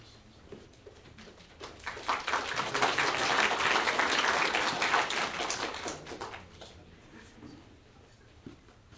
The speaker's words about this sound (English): That clap intended for me? I don't think so.